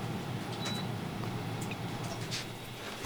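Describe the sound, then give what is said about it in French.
A steady, even mechanical hum, the low drone of an air conditioner running continuously at moderate volume with no voices over it. “Ah, j'ai coupé la clim, c'est mieux, non ?”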